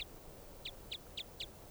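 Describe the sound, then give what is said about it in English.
Short, high-pitched bird calls repeat in a steady rhythm, four clear chirps about a quarter second apart after a clipped one at the start, over a low, constant background rumble. “Both birds.”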